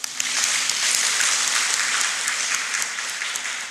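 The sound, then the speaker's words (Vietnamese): A crowd breaks into sustained applause for an author, dense and steady clapping that holds at full strength for several seconds before easing slightly toward the end, with no one speaking. “Rồi cho tác giả này một tràng vỗ tay đi quý vị.”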